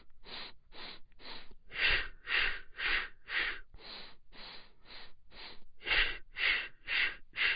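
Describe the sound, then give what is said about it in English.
Rhythmic breathing exercise: quick sniffing inhales through the nose in sets of four, each followed by four short puffs out through the mouth, repeated steadily with no talking. “And the ratio of breath is you're inhaling 4 breaths in a row, so it's, and then you're exhaling 4 in a row.”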